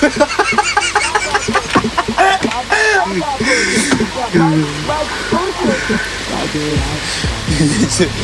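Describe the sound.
A rooster calls amid steady, overlapping clucking from a flock of chickens, loud, with voices murmuring underneath throughout.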